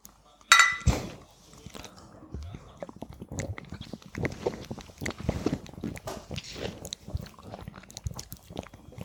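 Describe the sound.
Glasses clink once, sharp, at the start of a toast with malt beer celebrating a school-leaving exam (Abitur), followed by several seconds of soft drinking and mouth sounds with faint voices in the background.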